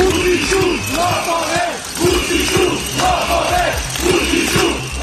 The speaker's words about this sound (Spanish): Al grito de Vučić, ladrón, miles de serbios se concentran en el centro de Belgrado para protestar contra el fraude y las irregularidades constatadas que empañaban los recientes comicios legislativos